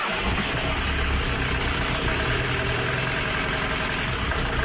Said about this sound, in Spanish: Oye, no es por nada, pero tu coche hace un ruido raro, raro. Uf, ya lo sé. Lleva así unos días. Yo creo que no lleva el aceite que toca